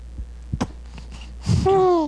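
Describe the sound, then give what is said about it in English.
A few soft, low gurgling thumps like a bowel sound, then a louder breathy nasal burst ending in a steady whistling tone, with no talking. “Sort of a bowel sound, followed by another one of those little nasal bursts.”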